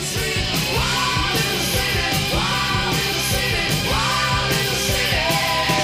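A rock singer lets out a long, loud, sustained scream over a dense wall of distorted guitar, bass and pounding drums, the cry rising and bending repeatedly through the music.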